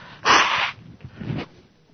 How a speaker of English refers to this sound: And, excuse me, just let me blow my nose a little minute here.